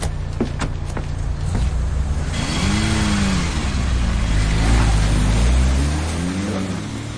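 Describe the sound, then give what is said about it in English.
A car engine rumbles and revs up, its pitch rising and falling in sweeping arcs as the vehicle pulls in, loud and steady with no voices. “Get that bloody car up here before they come over that bridge and get him back.”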